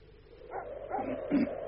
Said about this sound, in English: You hear that blooming dog? Something must have disturbed him.